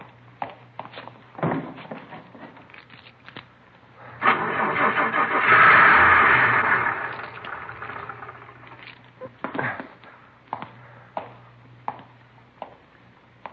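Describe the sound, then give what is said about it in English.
A car engine is cranked for about three seconds but fails to start, a loud grinding churn that swells and then cuts off, set between scattered clicks and knocks over a low steady hum. “Lousy car wouldn't start. I'd be 3 miles away if it would have started.”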